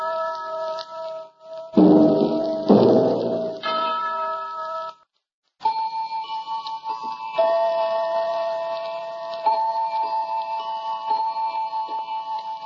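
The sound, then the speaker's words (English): A clock ticks in a steady rhythm beneath sustained ringing, chime-like tones, with a louder burst of sound early on and a brief silent gap before the ticking resumes, opening the radio program series The Clock. “We present a new series of radio programs, The Clock.”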